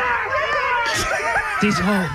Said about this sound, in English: These are the heavy classmates yelling at you.